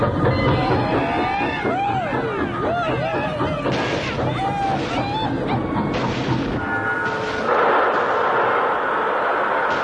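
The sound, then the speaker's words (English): A train rumbles in loudly, its brakes squealing in rising and falling screeches amid clattering bursts before it grinds to a halt with a steady, hissing roar. “Railroad's coming through. Right now.”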